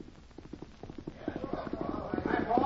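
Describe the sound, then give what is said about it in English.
Horse hooves clip-clop in a steady, quickening rhythm, growing louder as a man rides his horse up to a hitch rack on a town street, with faint voices murmuring underneath toward the end. “Man and horse ride up, dismount.”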